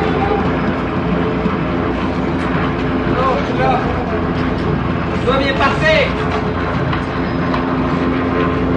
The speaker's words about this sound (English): I'm at a bus terminal here at Rene Levescu Square and just watching what's happening.